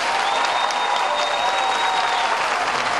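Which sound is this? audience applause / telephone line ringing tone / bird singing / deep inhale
audience applause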